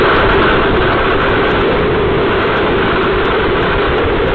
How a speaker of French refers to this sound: C'est tellement fort le vent qu'on entend dans ce micro posté dans cette station météo. C'est la violence des vents de cet ouragan Ida, et c'est tout le sud de la Louisiane